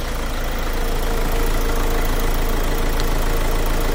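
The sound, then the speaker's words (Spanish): A car engine idles steadily in a car repair workshop in the north industrial estate (polígono norte) of Seville, Spain, with a low, continuous rumble and faint knocking, accompanied by a broad hiss of background noise throughout, with no voices. “Nos vamos al taller de Luis, en el polígono norte de Sevilla, una zona industrial.”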